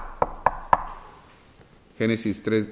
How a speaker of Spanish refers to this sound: Es como aquellos de la iglesia de la Odisea, el Señor les dice, antes de decirles: yo estoy a la puerta y llamo.